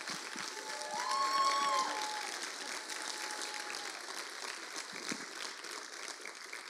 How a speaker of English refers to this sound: And if we can all just stand to our feet and just give them a hand clap, because I really believe that they deserve it.